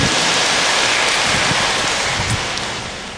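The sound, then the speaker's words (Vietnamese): An audience at a Buddhist dharma gathering applauds steadily, a dense, even patter of many hands clapping at once, holding strong for a few seconds before easing off slightly at the end. No one speaks. “Xin vị dành tràng pháo tay để lắng nghe sự chia sẻ”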